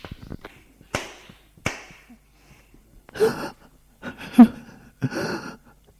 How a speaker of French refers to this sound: Il la gifle.